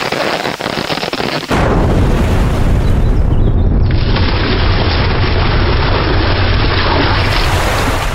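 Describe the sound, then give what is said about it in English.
A quiet stretch breaks into a sudden, violent explosion as a maple tree with untapped sap blows apart, followed by a loud, sustained roar of crackling debris and rumble that keeps going for several seconds. “The tree is vaporized. Only a shattered stump remains.”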